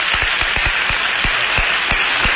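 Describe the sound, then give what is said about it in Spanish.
Steady applause from an audience for Alba Real, a dense wash of many hands clapping at once, with a few sharper individual claps punching through the even, fairly loud roar. “Un aplauso sí, para Alba Real.”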